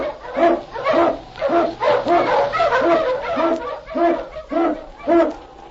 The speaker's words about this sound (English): King, the swiftest and strongest of Eskimo lead dogs, blazes the trail through storm and snow for Sergeant Preston as he meets the Challenge of the Yukon.